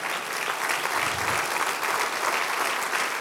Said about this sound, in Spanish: Aplauda al Rey de Reyes.